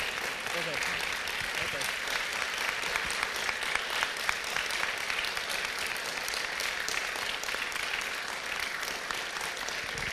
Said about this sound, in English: And with that, we bless you, and we ask, would you all rise and give our pastors some applause for the Lord.